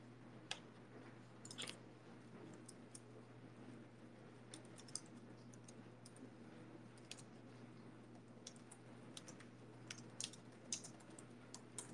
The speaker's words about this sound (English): Can you hear me typing?